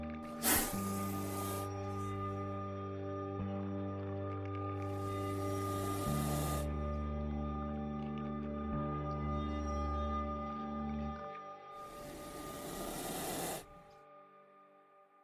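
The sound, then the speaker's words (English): Three bursts of breathy, sharp hissing outside a window at night, one short and two longer, rise over a steady low droning hum that plays beneath throughout. No one speaks. “Because sometimes I lay in bed at night, and I am certain I hear hissing outside my window.”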